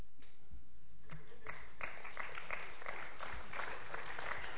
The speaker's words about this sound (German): Also nicht mir klatschen, Alan ist nicht da.